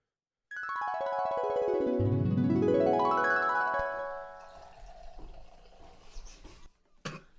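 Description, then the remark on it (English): A woman pours wine in a loud, steady stream, its hollow ringing tone sweeping upward as the vessel fills, then breaking into scattered splashes and trickles before stopping. No one speaks. “I see her pouring the wine, but I was like, man, that sounds like a pretty strong piss.”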